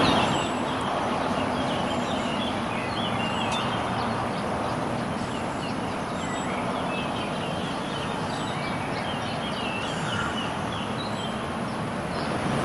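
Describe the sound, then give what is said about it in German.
Many small birds chirp and twitter continuously over a steady, broad wash of sea surf, the calls busy while the waves roar evenly underneath, with no talking. “Da sind die Vögel, da ist das Meer.”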